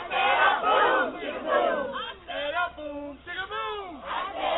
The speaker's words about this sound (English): No, he's like they're cheering him on.